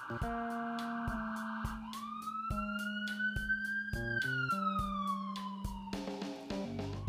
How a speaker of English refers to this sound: Leave it to Bridgeport to have sirens in the middle of my episode. But I don't mind. And I will never edit them out.